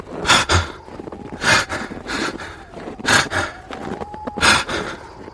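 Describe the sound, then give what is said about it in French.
Heavy, ragged panting: four or five loud, broad gasping breaths in quick succession, with softer breathing between them, of people badly out of breath while climbing a mountain pass at 4,400 metres altitude in thin air. “Et donc l'air se raréfie. Ils s'essoufflent.”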